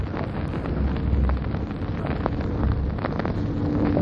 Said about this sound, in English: There are the aircraft coming over here once again.